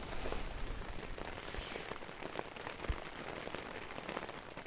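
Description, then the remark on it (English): Light drizzle patters steadily on a surface by a lake in Lithuania, in the evening mist, a soft continuous hiss dotted with scattered drops and a few slightly louder taps, with no voices present. “And it's been getting hillier and drizzlier and softer around the edges.”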